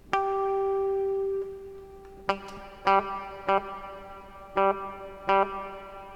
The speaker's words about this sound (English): All right. Here's a fun little reverb.